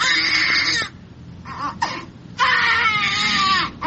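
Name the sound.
newborn babies crying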